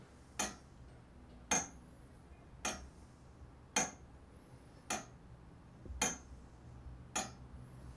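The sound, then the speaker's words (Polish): A weight-driven mechanical tower clock with an hour mechanism, wound and oiled twice a week, ticks slowly and steadily: seven sharp metallic clicks about a second apart, each with a brief ringing edge, over a quiet low hum with no voices. “Posłuchajmy, jak pracuje zegar.”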